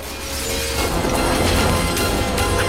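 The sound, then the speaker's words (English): Glass containers, knocked off a counter by a man falling back on his chair, crash to the floor in a dense, noisy clatter, with a few sharper impacts and shattering bits scattered over a steady rumbling background. No voices. “He shudders violently, then falls back on his chair, knocking some glass containers off the counter.”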